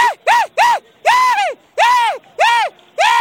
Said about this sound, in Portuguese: Olha, disse que esse grito que deu foi pra espantar a sua feiura, que é fraca de feição demais.